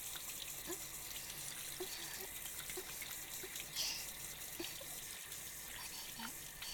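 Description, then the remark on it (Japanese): Shower water runs in a steady, even hiss for several seconds, with faint splashes and drips scattered through the spray as foam is rinsed away. No one speaks. “泡を洗い流して、シャワーの先っぽに当てられる感じちゃいます。”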